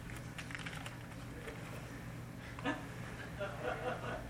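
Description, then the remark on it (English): Keys and a quarter coin are rummaged out of a pocket: small metallic clicks and jingles rattle irregularly for a few seconds over a low, steady background hum. “Now what have I got? Oh, no. I got keys. A quarter.”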